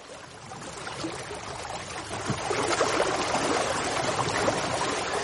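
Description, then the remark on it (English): Sea water washes and sloshes steadily against a quay in an onshore wind, a continuous watery wash that swells a little louder partway through, with no voices. “Same sea. Same ebb and flow. Same moonlit reflections, washing the whole coast, the whole country, a dozen other countries, all free, all without fear.”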